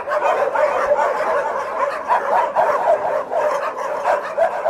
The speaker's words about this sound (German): So hört sich das an, wenn knapp 3000 Hunde auf einen Schlag bellen. Ein Sound, der einem noch Tage später in den Knochen steckt. Willkommen in Moskaus größtem Tierheim. Das Heim liegt eine gute Autostunde außerhalb von Moskau.